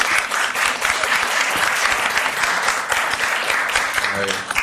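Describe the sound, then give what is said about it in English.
An audience applauds the contestants at the end of a round of a panel quiz game, steadily for several seconds, a dense, loud wash of clapping with no break, tapering slightly at the very end. “And at the end of that round, please give them a round of applause!”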